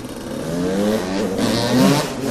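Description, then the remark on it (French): A motorcycle engine revs up and down as young riders do wheelies along tram lines and sidewalks in a French town, its pitch rising and falling in a loud, continuous whine, with steady traffic-like background noise and no talking. “Ce bruit de moteur qui ronfle, c'est devenu un bruit de fond quotidien pour les habitants des Chirolles qui balancent entre colère et inquiétude.”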